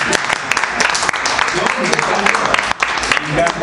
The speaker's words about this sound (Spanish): Pero se da un aplauso para el final.